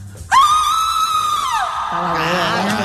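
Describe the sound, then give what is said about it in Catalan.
A single long, piercing horror-movie style scream, the winning scream of a screaming contest, by a contestant who works in marketing, held at a shrill high pitch for over a second before sliding downward into a rougher, lower wail; loud, with no talking. “aquest ha estat el crit guanyador de la Grossa de Sant Jordi”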